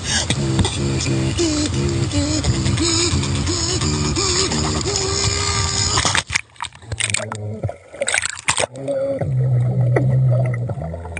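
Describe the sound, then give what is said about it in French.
Muffled, bubbling vocal beats gurgle through water as a man beatboxes underwater at a beach in Thailand, in a steady pulsing rhythm, followed by a choppier stretch of sloshing and burbling, all fairly loud with no talking. “Oui, je t'ai pas dit, c'est du beatbox sous-marin. Le mec, il est dans l'eau, sur une plage de Thaïlande, peinard, et il fait du beatbox sous l'eau.”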